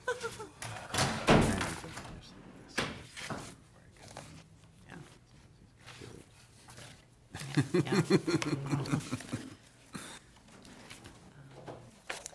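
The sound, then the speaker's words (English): A door is opened with a solid thunk near the start, followed by quieter knocks and handling noises, then a stretch of muffled, low voiced sounds. “Has someone like had a peek in the door?”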